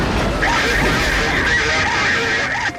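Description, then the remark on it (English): A semi truck jackknifes and slams into a highway median: a loud, continuous roar of grinding metal with a high, sustained screech riding over it, cutting off abruptly near the end. “The semi starts to jackknife and then slams into the median.”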